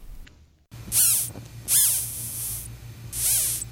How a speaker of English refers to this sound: but it's the final pair of spiracles that make a whistling sound that's audible to birds and humans. Lasting up to 4 seconds, the whistle appears to ward off predators such as hungry birds, which fly away upon hearing the sound.